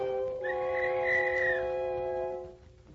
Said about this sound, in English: As if to mock me, I absentmindedly picked up the little tin whistle which was in the box of old things. It was now battered and rusty. Almost involuntarily, I put it to my lips and blew.